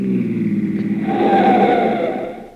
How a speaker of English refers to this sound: Hey, Bubbles, look out. Here comes a car.